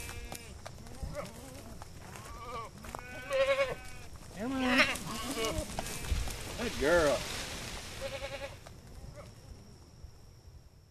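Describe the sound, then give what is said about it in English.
Several goats bleat in quick succession, wavering cries overlapping, while a person calls out briefly and coaxingly among them. “So the goats come in, the only thing they leave is hoof prints and fertilizer.”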